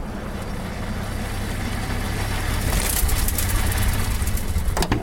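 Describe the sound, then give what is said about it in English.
A car engine idles steadily, a low continuous rumble with a faint hiss on top, and a brief click or clatter near the end. “I'll get myself out of the car”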